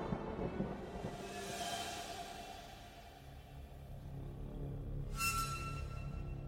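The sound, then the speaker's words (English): A deep, rolling rumble of thunder fills the scene, swelling and receding with a brief bright crackle near the end, heard alone without any voices. “With a deep clap of thunder, Bathmorda disappeared.”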